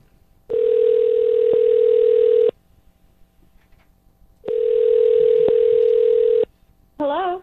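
A telephone rings on the line twice, each steady buzzing ring lasting about two seconds with a pause between, and then a voice picks up right at the end, as hosts of the Star 101.3 radio show call a listener.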